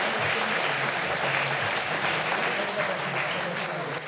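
A crowd applauds steadily, a dense wash of many hands clapping at an even, sustained level for several seconds, with faint voices murmuring underneath.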